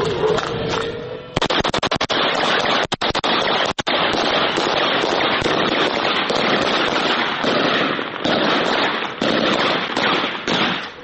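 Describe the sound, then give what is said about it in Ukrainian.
Loud, sustained gunfire aimed at a Russian FPV drone that has flown very close to the netting: dense crackling volleys of rapid shots run nearly unbroken, with a cluster of sharp, distinct reports early on before the shooting blurs into a continuous rattle. “Працюють хлопці по російському FPV-дрону, який підлетів дуже близько біля сітки.”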